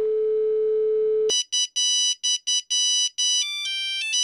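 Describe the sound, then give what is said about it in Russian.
A phone call tone: a steady low electronic tone holds for about a second, then gives way to bright, rhythmic ringtone beeps in short bursts, shifting pitch toward the end. No voices. “Попробую Максу позвонить. Может, ему удалось сбежать?”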